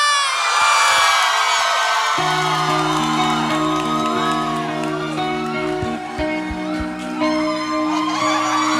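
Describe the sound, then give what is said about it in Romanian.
A large audience cheers, whoops and applauds loudly throughout as a performer is introduced, a dense wash of crowd noise, while sustained music chords start underneath after about two seconds. “Nu vă mai țin cu introduceri, dar o să vreau aplauze foarte mari pentru...”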